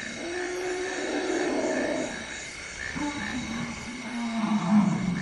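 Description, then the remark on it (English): Several elephants from related groups that have not seen each other for a while call together in greeting, with deep, drawn-out rumbles and groans that overlap and swell, a louder harmonic bellow near the end, and no talking. “When they get together, groups that have not seen each other for a while, they're related. There is an emotional thing that goes on between them.”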